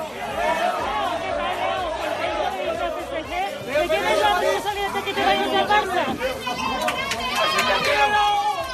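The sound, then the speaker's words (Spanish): About 20 fans at the Barcelona airport chant Leo Messi's name as he leaves for Paris, many high, overlapping voices rising and falling together in a loud, steady clamour that runs the whole time. “En el aeropuerto le esperaban unas 20 personas que han coreado su nombre, como oíamos.”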